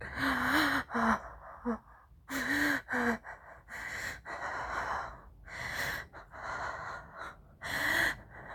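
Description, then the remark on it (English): A woman gasps repeatedly during sex in short, breathy bursts, some catching into a brief voiced tone. They come in an uneven rhythm with heavy breathing between them, and no words are spoken. “You love the way I gasp and the way my legs quiver as you press into me.”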